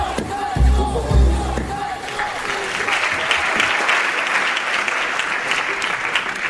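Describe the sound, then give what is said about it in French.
Villagers cheer and applaud, acclaiming a monseigneur: a couple of shouts and low thumps open it, then dense, steady clapping with crowd noise carries on loudly to the end. “Les villageois, monseigneur, ils vous acclament.”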